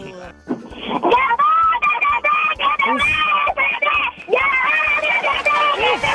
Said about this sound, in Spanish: ¡Qué agudos! ¡Qué envidia! ¡Qué pulmones! ¡Qué bárbaro! ¡Qué buenos gritos!